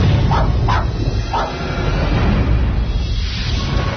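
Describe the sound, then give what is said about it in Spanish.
A small black dog with long, silky hair gives three quick yaps in the first second and a half, over a steady low rumbling background that continues after the barking stops. “Era un perrito negro con el pelo largo y sedoso.”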